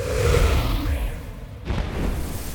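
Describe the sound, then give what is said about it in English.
A firework explodes over Pflugerville Peak with a deep, rumbling boom that rolls out with heavy low-end energy, followed by a second sharp burst and a crackling wash around the middle. No voices are present. “Another firework explosion.”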